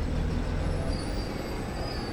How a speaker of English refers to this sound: the bus arrives.